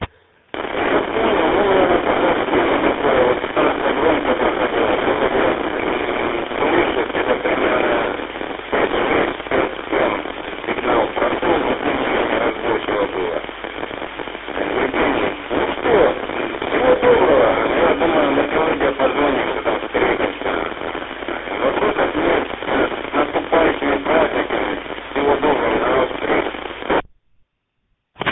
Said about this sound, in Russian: Все в шумах, все в шумах, у сливки USB, все в шумах, неразборчиво на приеме.